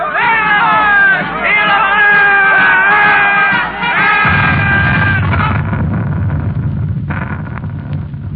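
A large crowd cheers and shouts as soldiers bound for Berlin march past after war with Germany is declared, many voices overlapping in a loud, sustained roar that gives way after a few seconds to a lower, rumbling murmur of voices.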